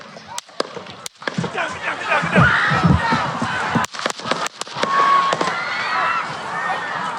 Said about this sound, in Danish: den lørdag eftermiddag i USA, da Donald Trump han holdt rally, altså vælgermøde i byen Butler i Pennsylvania. For ikke særlig langt inde i hans tale lød der pludselig skud.